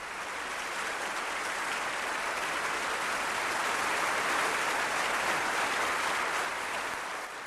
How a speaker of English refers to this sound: If not, fare jovially. And clap your hands!